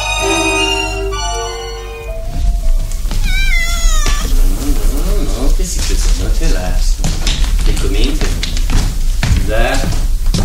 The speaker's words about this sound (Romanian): Iată, pisică.